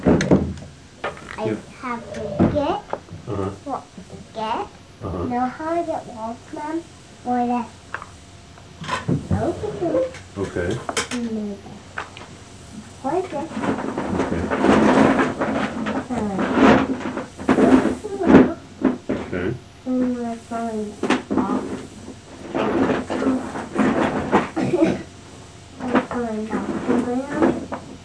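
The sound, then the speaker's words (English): Someone picks items out of a drawer, rummaging with a stretch of clattering and shuffling of objects mixed in among people talking. “I pick them out of the drawer.”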